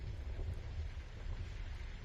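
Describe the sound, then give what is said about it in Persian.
Steady, dense patter of hail hammering down during a thunderstorm with a deep rumbling roar underneath, continuous and fairly loud throughout, with no voices. “تگرگه.”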